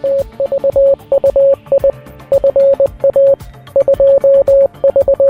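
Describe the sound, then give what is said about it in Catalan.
A Morse code message spelling the Catalan phrase "Avui fa 230 anys que va néixer Samuel Morse" beeps out as a steady single-pitched tone in rapid dots and dashes, grouped into bursts separated by short pauses, over a low musical background. “El que sentiu és la frase «Avui fa 230 anys que va néixer Samuel Morse», precisament amb codi Morse.”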